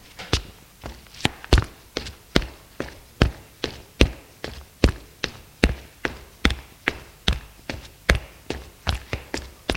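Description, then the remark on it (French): Two people climbing the wooden stairs of a small suburban house, their footsteps making a steady run of hollow thuds and taps about twice a second, overlapping slightly, with no talking. “Ils montent tous les deux les escaliers.”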